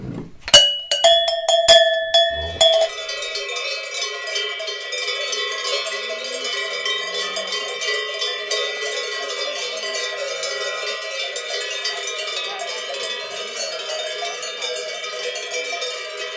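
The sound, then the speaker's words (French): On the Conchette alpine pasture, where a mountain herdsman spends the summer with his herd, a few sharp, ringing cowbell strikes give way to a continuous, overlapping jangle of many metallic bells clanking together at a steady level, with no voices. “C'est un alpage où un montagnard passe l'été avec son troupeau. On entend d'ailleurs.”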